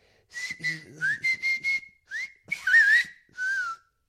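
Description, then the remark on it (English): A person whistles a line from a play, a short melodic phrase: a run of quick, bright notes in bursts with brief gaps, ending on a sustained gliding tone. No talking. “You know, I've studied, I've done a master's in performing arts on the performance style of whistle.”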